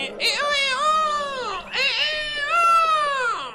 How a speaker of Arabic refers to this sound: وهكذا يا أصدقاء، وبينما كان الديك المغرور يصيح ويصيح بأعلى صوته، خرج من بيته نسر كبير وحاول أن يسكته، فقال له: ما هذا الذي يزعجني؟